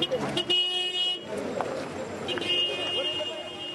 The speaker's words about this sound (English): Addis Ababa's Mercado is the biggest open-air market in all of Africa. It's a massive swarm of donkeys, trucks, buses, and people buying and selling what feels like literally anything you can imagine, from chewing gum to new cars,